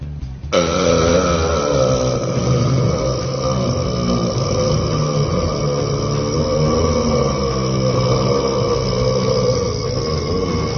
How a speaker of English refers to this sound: You're watching history, ladies and gentlemen. History is being made here today. You can tell your grandchildren that you were here at the first World Burping Championship.